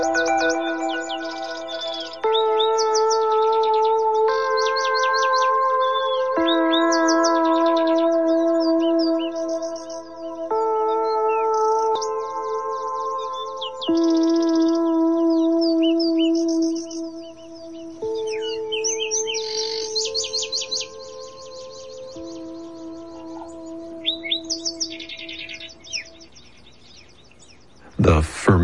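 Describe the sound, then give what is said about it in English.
A Zapata Wren of Cuba sings bright, rapid chirping phrases again and again over steady electronic music with sustained tones, the birdsong clear throughout the mix. “The Zapata Wren of Cuba, with the music of ….”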